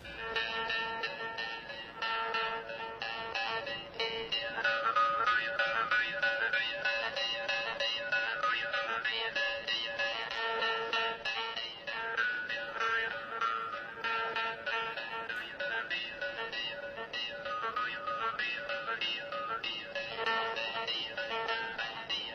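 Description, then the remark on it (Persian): A twangy, buzzing jaw harp (zanburak, named after an insect, one of the oldest instruments in the world) plays on steadily, its drone holding fixed while bright overtones glide up and down in a wavering melody. No voices, just the instrument throughout. “زنبورک و اصلا از نام یک حشره گرفته شده و یکی از قدیمی ترین سازهای جهانه.”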